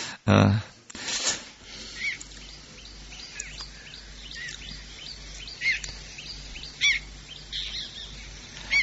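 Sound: birds chirping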